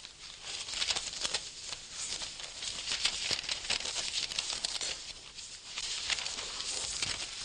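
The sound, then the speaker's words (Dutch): Thin pages of a Bible rustle and crinkle steadily as a page is turned from 2 Corinthians 11 to Galatians 1, a soft continuous crackling texture with small bursts, and no voices. “En dat is leuk, want dan ben ik eerst in 2 Korinthe 11 en dan sla ik gewoon 1 bladzijde om en dan heb ik het verhaal.”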